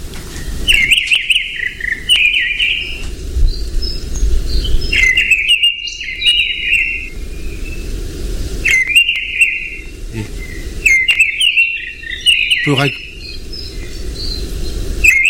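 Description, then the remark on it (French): A redwing thrush sings repeated short phrases of bright, twittering notes, each burst separated by brief pauses, over a steady low outdoor rumble with faint insect-like hiss. “C'est une grive. Mais quelle grive ? Il y en a plein. Ah, c'est la grive de renne.”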